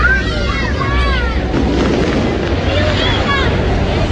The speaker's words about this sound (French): Ah, les feux d'artifice commencent.